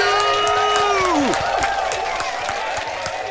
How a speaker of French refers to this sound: Je voudrais, s'il vous plaît, qu'on fasse un tonnerre d'applaudissements pour notre patron